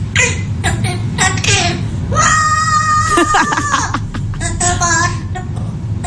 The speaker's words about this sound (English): So, it's a bird, sing screamo. I mean, that must be hard for the poor thing.